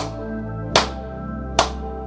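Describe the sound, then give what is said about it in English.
Sharp hand claps, evenly spaced less than a second apart, made to release energy during a space-clearing ritual, cut loudly through a steady, sustained humming musical drone. No one speaks. “And I clap 3 times.”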